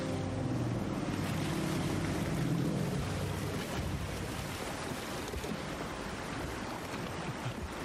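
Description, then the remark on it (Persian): A boat engine drones steadily over rushing water and wind, its low hum strongest at first and then fading into the constant wash of waves. No one speaks. “برو کنار، موتور رو خاموش کنید، موتور رو خاموش کنید، برو کنار ببینم.”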